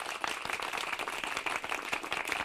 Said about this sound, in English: You hear that crowd? We're a hit.